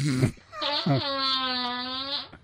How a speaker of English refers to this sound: Yeah, if we were a fart. If we were a fart, this is what we'd sound like.